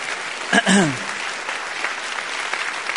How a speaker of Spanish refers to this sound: Den un aplauso al Señor, que Él se lo merece. Amén.